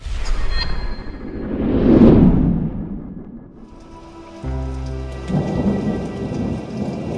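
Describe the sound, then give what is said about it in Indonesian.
Steady rain patters throughout while a deep roll of thunder swells and fades around two seconds in, followed by another low rumble later on; no voices, just the storm. “rintai hujan selalu membuat saya terharu. Rintiknya mengingatkan pada masa-masa yang telah lalu. Begitu pula hari ini.”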